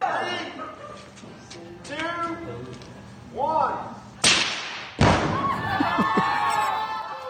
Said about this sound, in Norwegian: Hun samlet slekt og venner, 40 stykker i tallet, hadde da en sprengningsseremoni av brudekjole på faren sin hytte, og så fyrte de av, og alle jublet. Du kan få høre hvordan det hørtes ut.